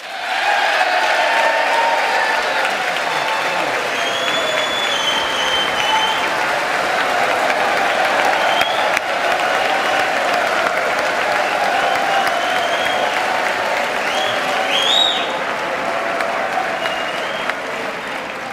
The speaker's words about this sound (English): Well, he had the Republicans cheering there before he even got the Democrats cheering.